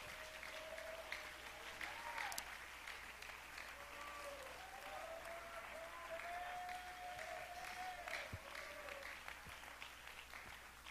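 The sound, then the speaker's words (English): An audience claps their hands in praise during a preacher's sermon, a dense, sustained wash of applause, with faint cheering tones and voices rising through it, holding an even level for about eleven seconds. “Come on, somebody clap your hands and praise Him.”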